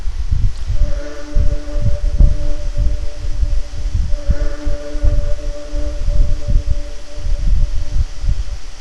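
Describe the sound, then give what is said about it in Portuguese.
A steady, rhythmic heartbeat thumps low, repeating evenly throughout over a soft, sustained humming drone, with no talking, during a guided relaxation exercise. “Sinta seu coração batendo cadenciadamente.”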